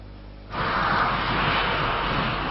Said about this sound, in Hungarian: Ez a Moszkvába tartó gép már menetrendszerűen szállt fel Ferihegyről.